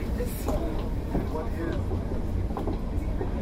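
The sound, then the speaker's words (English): A commuter train to Ronkonkoma rumbles steadily along the rails, a constant low roar with small clacks and rattles, while faint indistinct voices murmur in the background. “This is the train to Ronkonkoma.”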